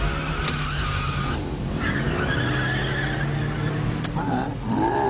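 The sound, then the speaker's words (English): A 200-horsepower car put in reverse by Treat Williams revs loudly with squealing tires, punctuated by a couple of sharp crunching impacts as it smashes into a man, dense like a movie chase scene. “And then Treat Williams smashes a car into the other guy.”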